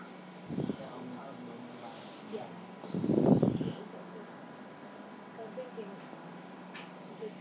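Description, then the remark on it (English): Skin on an arm is scratched in two soft, rough bursts, a short one early and a longer, louder rasp a few seconds later, over a faint steady background hum. “Me scratching my arm.”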